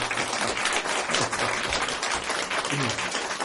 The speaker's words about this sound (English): We appreciate your work, we appreciate your cooking. That's why they were applauding.